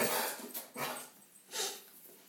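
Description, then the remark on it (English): A dog barks, three loud, sharp barks spaced out with short pauses between them, and no one talking over them. “I dig this dog.”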